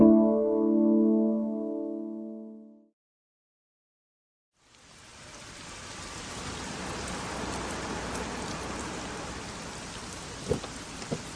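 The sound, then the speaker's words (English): A short musical tone fades out, then after a brief silence heavy rain pours down in a steady, dense hiss that continues to the end, with a couple of sharper spatters near the close. “It's pouring out there.”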